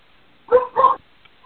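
A participant's dog barks twice in quick succession over an online meeting line, two short sharp woofs close together, somewhat muffled, with quiet background otherwise.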